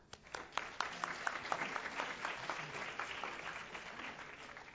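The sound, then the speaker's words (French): An audience at a conference breaks into applause to welcome the speaker, many hands clapping in a dense, steady patter that starts abruptly and holds at a moderate level throughout, with no one speaking over it. “Voilà, et je lui laisse la parole et on peut l'applaudir.”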